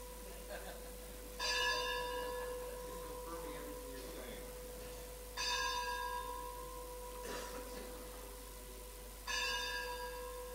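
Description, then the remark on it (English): A bell rings out three times at slow, even intervals, each strike ringing and slowly fading before the next, over a steady low background hum. “That reminds us of past times about Prabhupada and the bell”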